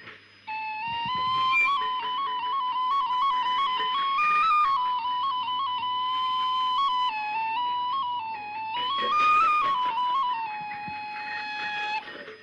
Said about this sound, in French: Des morceaux, des sonorités ancestrales, comme le corne en chèvre. Une flûte avec les cornes en chèvre.